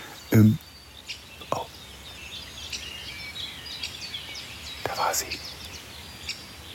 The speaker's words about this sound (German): Fasan war eben zu hören. Da war er.